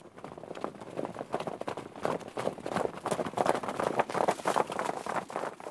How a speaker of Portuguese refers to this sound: Ela cuida da pradaria, onde os cavalos selvagens salpicados de sol correm para a relva que silva ao roçar das patas.